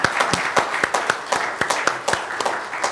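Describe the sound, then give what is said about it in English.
Audience applause at a church for the children who served breakfast that morning: a crowd of hands clapping in a dense, irregular patter, with sharp individual claps standing out over a steady wash of noise throughout. “Them a round of applause for just.”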